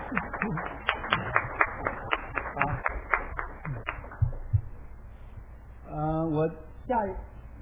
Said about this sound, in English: So all the teachers please stand up. We'll applaud for you.